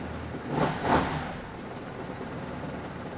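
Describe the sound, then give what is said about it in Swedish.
A low, muffled engine with two exhaust pipes, each fitted with three mufflers, is started and idles steadily and quietly at 500 rpm, with two brief louder surges early on before settling into an even, subdued rumble. No one speaks. “Det är 2 avgaspipor med 3 ljuddämpare i varje, så att den går väldigt tyst.”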